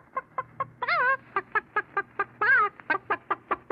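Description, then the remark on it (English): A bird call effect of chicken-like clucking: a brisk, steady series of short clucks broken by two longer rising squawks, clear with no talking. “Well, a little bird mentioned that to me, and by a little bird, I mean...”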